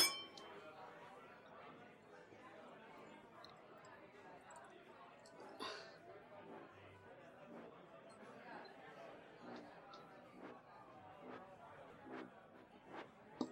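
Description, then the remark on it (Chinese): Glasses of alcohol clink together in a toast, a few bright, sharp chimes scattered through a murmur of background chatter, with one clear clink standing out partway through. “干杯。”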